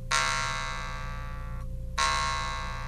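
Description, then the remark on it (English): A metal mouth harp, its small central lever pulled back and released while pressed against the teeth so the mouth amplifies it, twangs in two sustained, buzzy bursts separated by a brief pause, rich in bright overtones over a steady low drone, with no talking. “So you pull it back, and you let it go, and it vibrates.”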